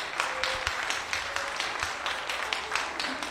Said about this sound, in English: Give Him a good clap hand this morning.